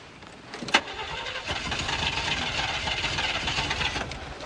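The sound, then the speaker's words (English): A car's starter grinds and churns for several seconds in a steady, rough rhythm after a sharp click, the engine cranking over without catching. No voices are heard. “See, there's only two reasons the car won't start.”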